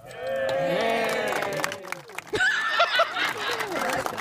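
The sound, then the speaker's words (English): A small crowd gives a muted, half-hearted cheer, several voices overlapping in a low murmur of mild whoops that rise briefly partway through before trailing off. “I've never heard the crowd go mild before.”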